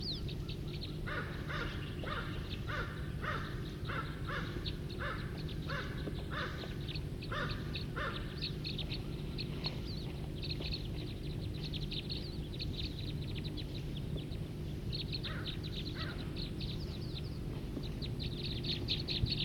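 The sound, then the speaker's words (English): A flock of about 5 or 10 birds calling together in a tree, harsh repeated caws and chattering calls in quick bursts over a steady low hum, the calls thinning out then picking up again. “There's about 5 or 10 birds here in a tree right here, calling.”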